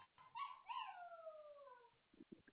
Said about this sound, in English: I hear a puppy. What kind of puppy? It's a German Shepherd. Oh, lucky you. It's a baby.